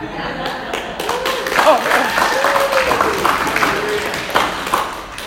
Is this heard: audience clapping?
yes